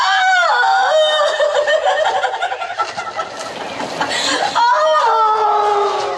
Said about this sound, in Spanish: Guiado por los gritos o aullidos, avanza cauteloso.